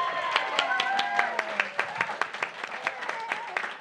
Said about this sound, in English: Yes, give her a round of applause.